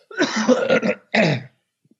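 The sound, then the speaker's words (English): A wet, phlegmy cough: a long, rough hacking burst followed by a shorter second one, loud and raspy like clearing mucus from the throat, with no talking. “But anyways, I just coughed up some of it, though. I don't know if you heard that.”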